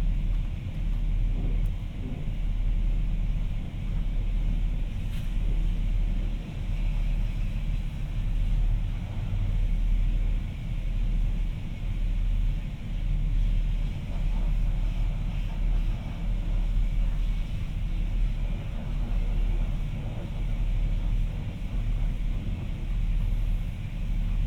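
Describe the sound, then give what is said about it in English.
A Ford F-150 pickup truck being washed by hand, heard as a loud, steady rumbling wash of water and scrubbing against the vehicle, continuous for the whole stretch with no talking. “I thought it was an automatic car wash, but I guess it's Dad manually washing the car.”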